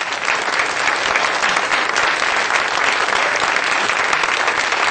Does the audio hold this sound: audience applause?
yes